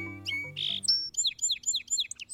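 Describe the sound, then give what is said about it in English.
A bird sings a bright, rapid phrase of five or six repeated high chirping notes, clear, following a brief low musical tone at the start. No one speaks. “Many bird species have a distinctive song.”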